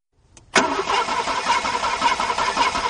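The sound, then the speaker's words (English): A car engine cranks loudly and steadily after a faint click, the starter grinding on with a rough, pulsing churn as the motor fails to catch. No one speaks. “It's the car. It won't start.”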